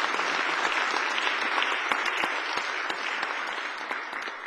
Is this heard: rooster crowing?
no